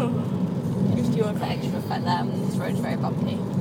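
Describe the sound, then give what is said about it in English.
Steady low rumble of a car rolling over a very bumpy road, heard from inside the vehicle, with people talking over the engine and road noise throughout. “Do you want that extra effect there? This road's very bumpy.”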